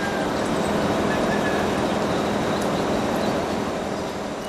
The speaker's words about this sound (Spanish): Son las 6 de la mañana. Seguimos sin energía y la planta de una casa vecina la alcanzo a escuchar desde aquí.